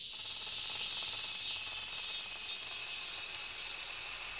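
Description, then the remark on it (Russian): Cicadas drone in a loud, steady, high-pitched buzz with a fast pulsing shimmer, filling the whole stretch without pause and with no voices. “Красиво цикады стрекочут.”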